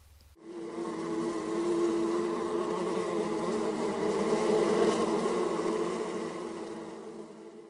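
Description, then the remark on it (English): A steady, dense drone of many bees, Sherlock's bees in the city, buzzing together, continuous, swelling slightly in loudness over several seconds with no voices present. “Here, Joan can watch them work, even at this hour, their buzz an almost reassuring white noise beneath the city traffic.”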